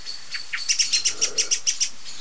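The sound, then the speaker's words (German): A rapid series of about a dozen sharp, high-pitched bird chirps repeated in an even, insistent rhythm, forming a clear alarm call heard alone. “Denn umso besser sie sind im Interpretieren, Verstehen der jeweiligen Alarmrufe, umso überlebensfähiger sind sie, weil sie einfach durch dieses Frühwarnsystem Gefahren aus dem Weg gehen können.”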